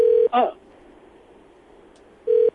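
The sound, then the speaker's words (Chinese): Two short electronic telephone keypad tones, one at the start and one near the end, separated by a quiet gap, with a brief voice-like burst just after the first tone; a phone call being dialed that reaches a busy line. “糟了，他应该知道是我要打给他，他会用回拨的。”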